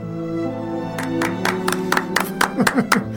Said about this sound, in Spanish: Qué poco serio este programa. ¿Cómo van a aplaudir así nomás? Tienen que decir palabras.